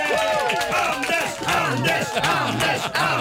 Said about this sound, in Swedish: Ja, en liten applåd